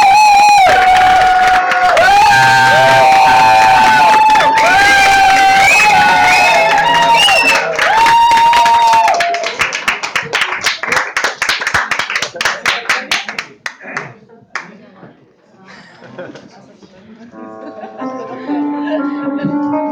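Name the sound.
audience applauding and cheering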